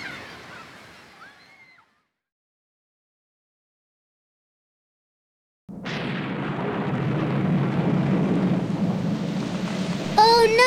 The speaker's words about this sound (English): What's that? Oh dear, it's raining.